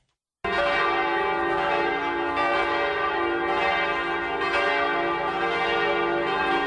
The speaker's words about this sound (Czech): Tačno u ponoć oglasila su se zvona u sabornom hramu Hrista Spasitelja.